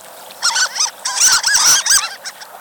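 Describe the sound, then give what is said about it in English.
A harlequin duck gives a quick series of high, thin squeaking calls, several bursts close together, loud with no talking around them. “Some, like the harlequin, squeak, earning them the nickname of sea mice.”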